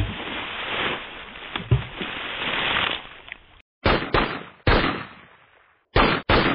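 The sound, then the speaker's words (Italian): A few seconds of heavy, rushing splashing as men throw themselves from a ship into the sea, then five sharp gunshots crack out in an uneven sequence, each with a short ringing tail and brief silences between. “si udirono due tonfi, seguiti da alcuni spari.”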